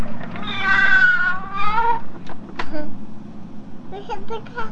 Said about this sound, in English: Listen to the cat. This is the cat.